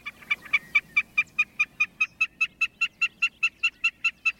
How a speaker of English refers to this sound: Snipes also sing from the ground.